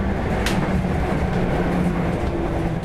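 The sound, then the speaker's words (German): A tram rumbles steadily on a sunny morning, its low mechanical drone and faint hum filling the scene, with a brief hiss of air around half a second in and no voices. “kommen händchenhaltend aus der Straßenbahn.”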